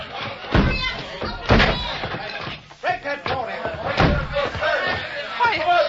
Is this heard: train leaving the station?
no